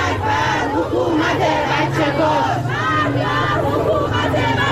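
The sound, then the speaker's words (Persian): A large protest crowd chants slogans in unison in front of the Ministry of Education building, many voices rising and falling together in loud, rhythmic shouts, with a steady low rumble of noise underneath throughout. “اینجا هم مقابل ساختمون وزارت آموزش و پرورش و شعار هم گویاست.”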